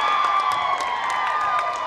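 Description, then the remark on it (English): Fans in the stands at a co-ed high school basketball game in the Saucopee Valley High School gym cheer in a steady, loud roar, with sustained high-pitched yelling and scattered sharp bursts running through the whole short stretch. “Cheering fans filled the stands.”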